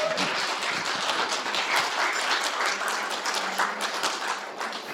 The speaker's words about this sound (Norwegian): Er det ikke fantastisk å synge lovsanger til Gud? Bare stå og bare tilbe Gud. Så herlig. Jeg synes vi skal gi dem en skikkelig applaus da.